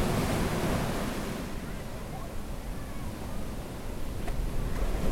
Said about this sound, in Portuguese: O mar, para mim, tem um efeito terapêutico. Não é só nadar no mar e tal, mas esse barulho das ondas, para mim, é uma coisa deliciosa de se escutar, né?